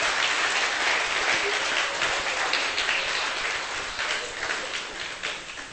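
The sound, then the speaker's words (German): An audience applauds the cooks who prepared the meal, a dense crackle of many hands clapping at once, loud and sustained before slowly thinning toward the end. “Aber dann sagt es ihnen, es ist gerade für euch applaudiert worden.”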